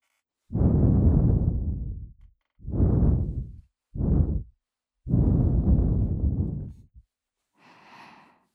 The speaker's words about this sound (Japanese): どうだ、私の吐息、熱くて心地いいだろう。